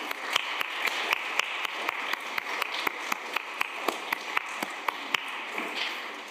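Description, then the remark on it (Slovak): A crowd claps with full hands, a dense, steady patter of many overlapping claps with sharp individual slaps standing out at a quick, fairly even rhythm, moderately loud with no voices. “Niekto si môže povedať, toto je potlesk.”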